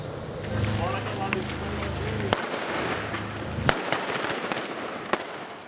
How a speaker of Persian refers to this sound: تبادل آتش میان نیروهای عراقی و شبه نظامیان گروه حکومت اسلامی موسوم به داعش که در یکی از خانه‌ها در غرب موصل پنهان شده اند. تبادل آتش در داخل خانه.